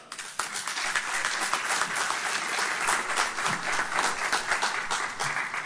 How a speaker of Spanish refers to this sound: Muchas gracias, un gran aplauso al artista nacional, el señor ….